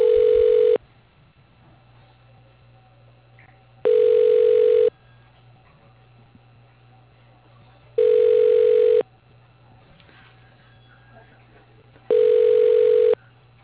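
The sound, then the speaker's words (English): A telephone line tone as a call at the Bank of Cardiff is transferred to voicemail: four evenly spaced one-second ringback beeps of a steady mid pitch, about four seconds apart, with a faint low hum in the gaps. “Can I put you into his voicemail?”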